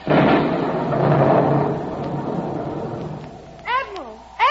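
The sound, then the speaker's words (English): A loud, rolling rumble of thunder as a ship at sea runs into a storm fills the first half and slowly fades into the storm's noisy wash, followed by a few sharp cat meows near the end. “Looks like we're running into a storm, Admiral. Yes, and it looks like a bad one, too.”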